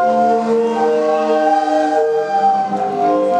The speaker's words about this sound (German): Hier treffen sich Einheimische und Touristen, um den bezaubernden Blick auf die Sadar vorgelagerten Inseln Ugeljan und Paschman und die vielen Segelboote zu genießen und den ungewöhnlichen Klängen der Meeresorgeln zu lauschen.